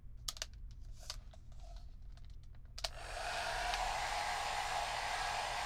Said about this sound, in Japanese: さてと、あとはドライヤーで乾かしちゃいましょう。任せてください。ドライヤーさばきならちょっとしたものですよ。じゃあ、ドライヤーお借りしますね。